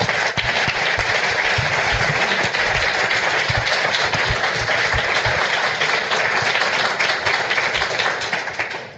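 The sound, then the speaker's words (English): Sustained audience applause for the panelists of a panel, a dense, steady wash of many hands clapping at a loud, even level for the full stretch, easing only slightly at the very end. “So, first of all, I want to give a round of applause for our panelists.”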